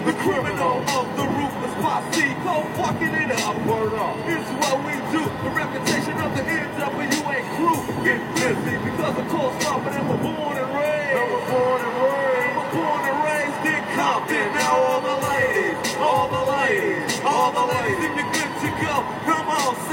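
Fake-sounding crowd noise in a recording: a dense, steady crowd roar with overlapping murmuring voices and scattered sharp clicks, sustained at an even, fairly loud level throughout, with no distinct words standing out.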